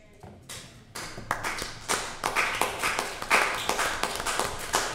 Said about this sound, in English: Only the people that care to clap.